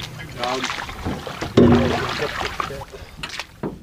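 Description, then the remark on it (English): A small boat carrying tribal leaders moves along river water on a tour of Kuskokwim villages in Alaska, with steady rushing and splashing, an engine-like hum surging briefly, and indistinct voices mixed in. “… piled into a boat with tribal leaders from across the state.”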